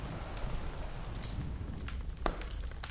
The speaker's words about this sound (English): But the sound of the weather had not totally left them, as only a faint sound of the wind and rain remained.